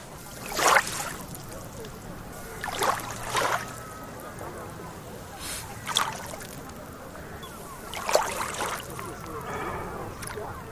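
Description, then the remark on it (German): Small, gentle Baltic Sea waves lap softly onto the beach at Travemünde on a very windless day, with a handful of quiet, washing splashes arriving every two to three seconds over a calm, low background. “So klingt es, wenn die Ostseewellen so ganz sanft an den Strand von Travemünde schlagen.”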